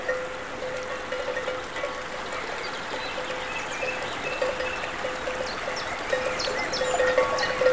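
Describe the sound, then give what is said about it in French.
Livestock bells ring faintly and steadily over the constant rush of a stream and a waterfall, while birds chirp in short, bright bursts in a green open pasture in summer. “Les oiseaux, la sonaille, la verdure, le ruisseau et la cascade.”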